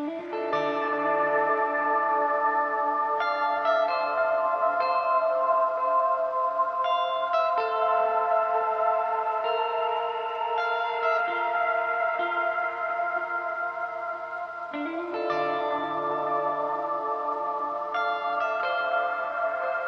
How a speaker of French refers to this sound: Voilà, j'ai fait un petit morceau de guitare juste avec un effet de reverb. Et il y a d'autres effets intégrés dans cette reverb-là, mais chut, c'est un secret.